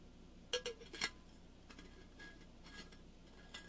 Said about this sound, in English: By the way, that metallic noise you've been hearing, I got a new sustainable water bottle, and you got to unscrew the lid from time to time.